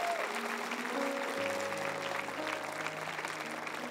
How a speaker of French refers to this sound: Est-ce qu'on peut se lever ensemble et vraiment applaudir la résurrection qui nous dit aujourd'hui, ce n'est pas fini. Ce n'est pas... Voulez-vous applaudir?